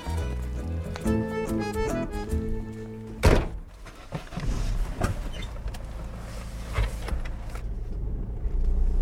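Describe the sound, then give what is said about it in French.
A car door shuts with a solid thump in snowy, stormy weather, preceded by a steady droning tone and followed by a softer knock and a low engine rumble. No one speaks. “C'est ta voiture.”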